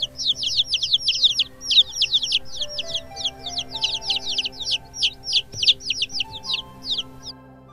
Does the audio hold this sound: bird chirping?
yes